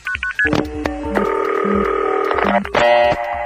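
A rapid burst of short telephone dialing beeps gives way to a steady, sustained line tone, then a few more tone bursts and a brief click, all clear with no talking.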